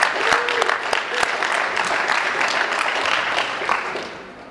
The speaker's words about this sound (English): All right, let's give Jonathan another round of applause, please.